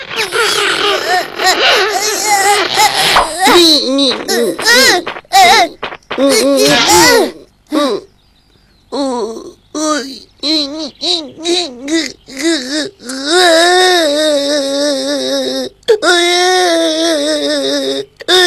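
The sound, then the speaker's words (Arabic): A baby boy cries and wails in repeated bursts, the pitch wavering and rising, with brief pauses between sobs and a long sustained fussy stretch near the end. “يبدو أنه ولد مشاغب يبكي الصغار عند الجوع”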